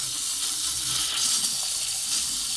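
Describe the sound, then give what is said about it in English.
A hotel bathroom sink faucet runs with air in the pipes, giving a steady, harsh, hissing rush of water with uneven low sputters underneath, moderately loud and continuous throughout, with no talking. “And I just made an interesting discovery when I turned the water on in the bathroom sink.”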